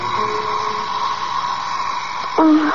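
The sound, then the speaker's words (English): An alarm clock buzzes in the morning to wake someone up, in one steady, unbroken electronic drone with a high whine on top, then the tone drops in pitch and swells louder just before it ends. “Your alarm to wake you up.”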